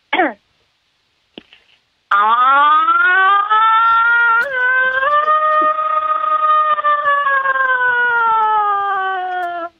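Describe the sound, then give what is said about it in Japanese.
A voice imitates the Koshien stadium siren: a brief falling cry, a pause, then a loud, long wailing tone that swells slightly upward and holds steady for about seven seconds. “甲子園で流れるサイレンの音の真似、どうぞ。”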